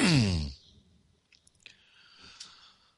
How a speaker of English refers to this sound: allow that deep breathing to continue